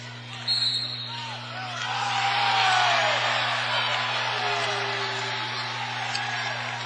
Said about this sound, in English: Well, that groan you heard from the Dort College crowd and bench was an illegal screen getting called on Kara Van Dyke.